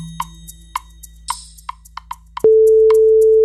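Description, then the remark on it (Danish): A series of short clicks and taps, like a number being entered, followed by a steady, loud, mid-pitched telephone ringing tone that holds on to the end, as a call is placed from a Danmarks Radio studio to a press chief's work mobile. No one speaks. “så ringede jeg jo til din pressechef fredag.”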